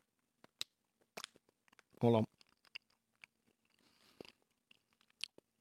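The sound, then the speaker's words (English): Someone chews a soft candy made of sugar, corn syrup, glaze and salt right up against the microphone, producing scattered sticky mouth clicks and smacks, interrupted once by a short spoken phrase. “Sorry, people don't really like people chewing down a microphone, dude.”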